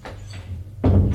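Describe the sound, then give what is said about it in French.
An office door opens: a low, muffled rumble of movement and then a heavier, fuller clunk near the end as it swings open, with no one talking. “Il va vers la porte du bureau, il ouvre.”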